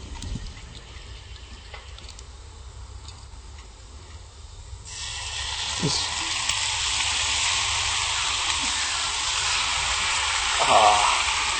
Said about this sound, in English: Sizzling, look yummy. Smells good. Try to even it out so that both sides get the sauce.